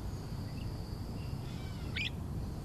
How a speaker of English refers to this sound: Woodland Cemetery is also an arboretum, with over 3,000 trees. And hanging out in those majestic oaks, magnolias, and shagbark hickories are birds. Lots and lots of birds.